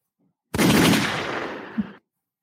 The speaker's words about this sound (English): Gunshots for that.